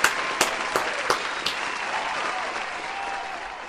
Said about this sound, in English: Ladies and gentlemen, please give this wondrous man a round of applause.